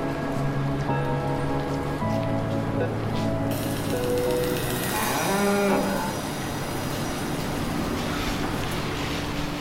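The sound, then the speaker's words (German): About ten pregnant cows on a farm in Franconian Switzerland, Germany, moo in turn, long droning calls that overlap and rise and fall, over a steady background hiss like rain on a surface. “Sind so 10 trächtige Kühe hier auf dem Bauernhof vom Landwirt Martin Bezold.”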